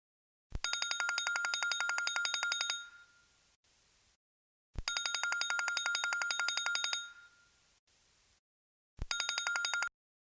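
A mobile phone rings in three bursts of rapid, trilling electronic tones, each about two seconds long with short pauses between, clear with no voices.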